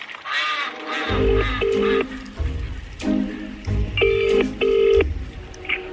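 A phone being dialed: a series of short, bright keypad tones in uneven bursts, followed by a repeating electronic ring tone, over a low rumbling background.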